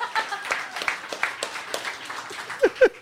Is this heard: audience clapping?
yes